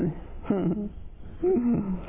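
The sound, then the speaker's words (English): Someone growls out two short, rumbling tiger-roar imitations about a second apart, moderately loud, with a muffled, narrow-band quality. “What happened to the tiger?”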